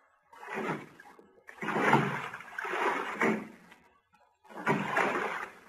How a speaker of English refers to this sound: Each time the toilet was flushed, it gave the appearance of waves breaking against nearby rocks.